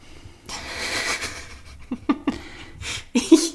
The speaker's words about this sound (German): Ich höre schweres Atmen.